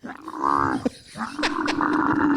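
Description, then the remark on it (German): A camel's loud, harsh groaning bellow with a throaty, rattling drone, breaking off briefly before a second long, rumbling moan follows. “Ich zeig dir mal, wie ein Kamel klingt.”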